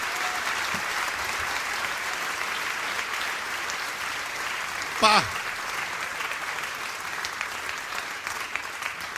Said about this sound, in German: Das ist ein schöner Applaus heute, so wie in Japan.